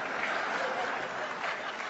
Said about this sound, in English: No, don't applaud that.